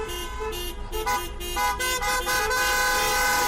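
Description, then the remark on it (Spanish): Many car horns honk at once in a dense, overlapping chorus of steady tones, some held and others tooting in short bursts, loud and continuous over a rumble of traffic, from cars in a street protest against the new education law on the main roads of Spanish cities. “Es el ruido de los claxons de los coches que van a colapsar de nuevo las principales vías de las ciudades españolas.”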